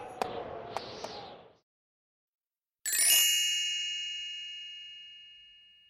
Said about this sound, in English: Martha snorted in the cold winter air, and the heavy sleigh slid through the white countryside. The clanging of Martha's bells and the rocking of the sleigh lulled Rascal softly to sleep.